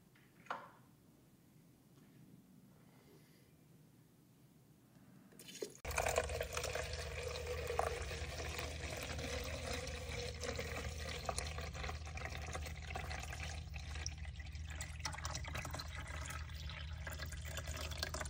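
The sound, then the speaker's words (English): After a few quiet seconds and a soft click, water starts pouring in a steady, fairly loud rush as coffee is made. It keeps running unbroken until the end, with no one talking. “So I'm going to make the coffee myself. I'm going to test the water before it comes in.”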